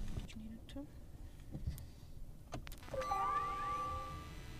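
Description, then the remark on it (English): An electric car is switched off and back on: a few soft mechanical clicks, then a rising electronic startup chime that settles into steady, layered tones, moderately loud. “I actually did, but we'll switch it off and put it back on so you can hear for yourself.”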